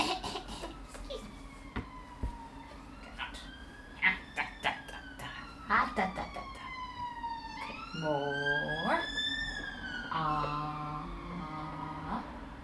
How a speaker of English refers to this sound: Distracted by the sirens. Don't worry about it. They're gonna save somebody.